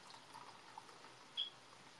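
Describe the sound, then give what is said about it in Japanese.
A steady, soft stream of chilled, home-boiled tea pours into a cup, a continuous gentle splashing hiss held at low volume throughout, with a brief brighter clink partway through. No one speaks. “じゃ、ニオさんが沸かしたお茶を勝手に注ぎます。”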